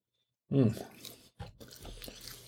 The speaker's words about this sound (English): I know you're supposed to chew your meat 30 times, right? But I don't think you want to sit here for 2 minutes waiting for me to chew up the meat.